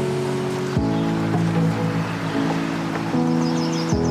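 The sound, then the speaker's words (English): An old park water fountain, worked by stepping on it, runs with a steady, rushing splash that never lets up, over a low humming drone. Faint bird chirps come through near the end. Nobody speaks. “And this water fountain has got to be just as old as me, because it's where I would drink and bathe if I needed to.”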